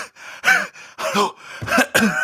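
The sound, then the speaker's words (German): A voice imitates heavy panting: about five quick, loud, breathy gasps in a ragged rhythm, with no words spoken. “also wirklich 80-Jährige an mir vorbei in voller Sportmontur und sind dabei noch am Labern und rennen dann da ein paar hundert Meter den Berg hoch und ich falle dann da hechelnd daneben in den Graben rein.”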